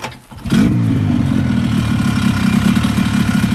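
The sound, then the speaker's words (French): A snowmobile engine kicks in after a brief quiet moment, then runs with a loud, steady droning rumble and a buzzing mechanical whine, with no voices, on the two-hour ride from Pourniema to the isolated village of Liamsa. “Nous quittons Pourniema pour un autre village encore plus éloigné et coupé de tout, Liamsa, accessible seulement après 2 heures de motoneige.”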